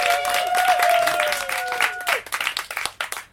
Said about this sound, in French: Et maintenant, sous les applaudissements ébahis de la foule, la phrasette.